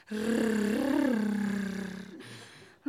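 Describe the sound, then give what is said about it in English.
A person playing a sexy cat on a phone line called Feline Station imitates a cat's purr with one drawn-out, rolling, throaty sound, fairly loud, wavering in pitch for about two seconds before trailing off. “You want me to swish my sexy tail for you? Oh, you like that, do you? Hear me purr.”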